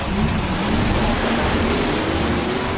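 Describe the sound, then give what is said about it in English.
A race car engine roars steadily, its pitch slowly climbing as it revs, buried in a dense, continuous rushing noise. No voices are heard. “Drivers, start your engine!”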